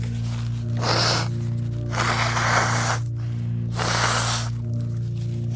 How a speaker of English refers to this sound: I'm just gonna blow my nose real quick, okay?